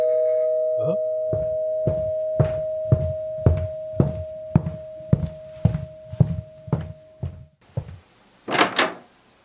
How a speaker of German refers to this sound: Oh, es klingelt.